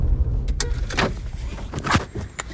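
inside a car

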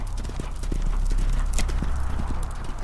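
horses galloping

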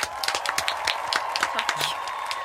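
applause

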